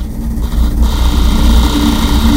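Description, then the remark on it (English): A closet in a house rattles and shakes, with the window closed, from loud vibration outside under a constant low, engine-like rumble. The buzzing vibration grows fuller after a moment and then holds steady and loud, with no voices. “That is my closet shaking.”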